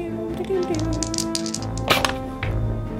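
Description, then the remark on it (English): Dice are rolled for a scatter in a tabletop game, clattering and tumbling across a hard surface in a quick series of sharp clicks, with one louder knock near the end, while voices murmur underneath. “Roll the Doom.”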